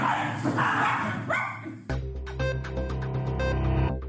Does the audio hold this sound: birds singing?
no